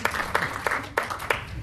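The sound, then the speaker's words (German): A short burst of applause: a steady wash of many hands clapping, with several sharper, louder claps standing out at a regular pace. No one speaks. “Ein Applaus hast du dafür.”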